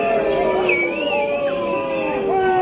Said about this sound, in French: Sur la place du marché, en passant juste devant les terrasses, les manifestants scandent ce mot. Liberté ! Liberté ! Ce qui provoque la colère des clients attablés en terrasse, huées et sifflements.